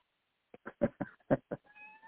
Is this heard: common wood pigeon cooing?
no